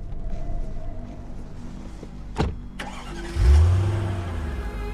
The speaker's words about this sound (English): Sadly, the man climbs back into his car and drives away into the night.